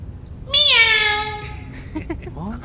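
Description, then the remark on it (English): A person imitates a cat with one long, loud, drawn-out meow that slides downward in pitch, followed by a few quieter, mumbled vocal sounds. “That's talking to dead animals?”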